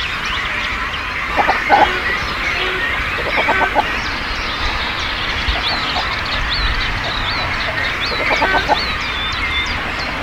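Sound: cormorant colony calling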